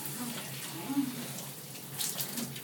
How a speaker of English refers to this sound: Like a far too hot shower. Oh, God. I love the way the hot water feels against my skin.